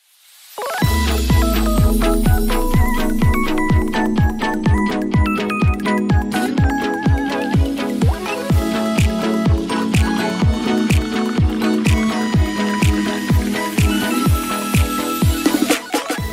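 A song plays at full volume, with a steady driving beat, punchy low drums and bright layered instruments carrying a repeating melody throughout. No one speaks over it.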